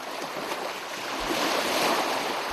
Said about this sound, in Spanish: Y nos dejamos llevar por el sonido cautivador de las olas para conocer la leyenda del Cristo del Mar. Bueno, es súper relajante el mar, de verdad.